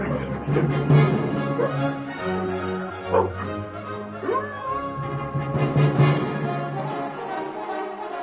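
A dog and a wolf bark, yip and whimper playfully back and forth as they play, the excited sounds overlapping almost continuously over a steady low hum.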